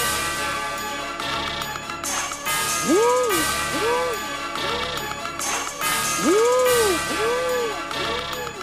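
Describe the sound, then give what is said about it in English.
An energetic mid-2000s trap song with loud, punchy drums, bells and bright crash hits, over a heavy bass low end and repeating swooping, arcing synth-brass notes that rise and fall with a clean, busy, maximal mix, with a vocal in the high frequency range. “let's listen to a mid-2000s trap song that has none of this.”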